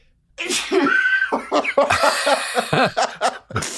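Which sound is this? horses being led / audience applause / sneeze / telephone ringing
sneeze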